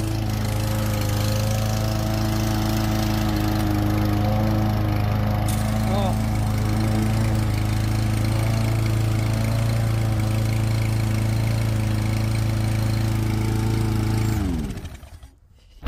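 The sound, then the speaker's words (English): A small pull-started engine, sprayed with starting fluid and primed, is pulled and runs with a steady, loud, buzzing drone for about fourteen seconds, then sputters and winds down to silence at the very end. “It sounded like it was running longer and longer every time we did that.”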